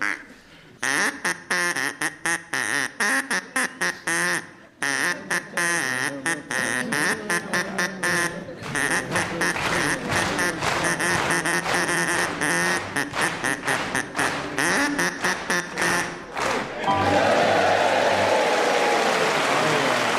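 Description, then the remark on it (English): A quacking duck toy squeaks out the melody of Old MacDonald in a quick run of nasal, pitched honks for about seventeen seconds, then an audience breaks into loud applause. “It was Old MacDonald had a farm, of course it was.”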